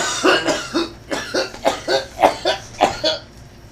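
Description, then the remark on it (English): A long fit of harsh, raspy coughing from a man after taking a dab hit, about ten rapid bursts in a steady, strained rhythm with no talking. “We're going to wait just a second for him to cough it out.”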